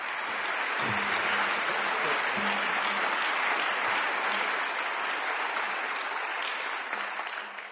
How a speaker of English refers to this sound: I was so glad to hear that round of applause for Seattle.